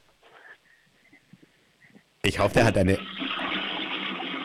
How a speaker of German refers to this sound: Ich wollte gerade sagen, ich hoffe, du hast eine laute Klospülung und du hast tatsächlich eine laute Klospülung